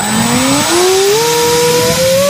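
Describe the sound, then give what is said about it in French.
A small drone, a few tens of centimetres in size and made entirely of plastic, flies with a steady, loud motor whine whose high-pitched buzz climbs gradually in pitch over a couple of seconds, with no voices. Such drones fly at altitudes of 50 to 100 metres. “En revanche, ils font un bruit très particulier.”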